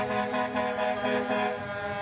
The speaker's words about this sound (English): In convoys honking as they drive past the Kamloops School.